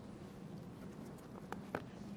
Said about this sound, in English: Sounds like a good rain out there, doesn't it?